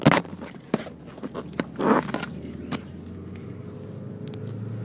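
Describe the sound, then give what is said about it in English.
A phone clatters as it's dropped in a mobile recording studio: a scatter of sharp knocks and a brief rustling scrape, all over a steady low engine hum. Nobody speaks. “No, I dropped the phone there.”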